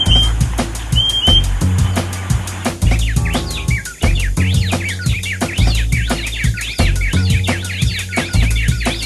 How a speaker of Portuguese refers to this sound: Após pequena pausa, o assobio curto do gaturamo quebra o silêncio.